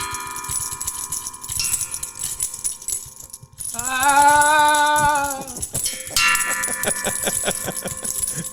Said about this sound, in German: Er trägt eine Muschelkette um den Hals. Die Muscheln rasseln im Wind.